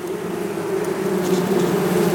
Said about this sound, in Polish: Wyraźnie słychać. Pszczoły tutaj są z nami. Huczą, ponieważ po podróży są delikatnie zestresowane.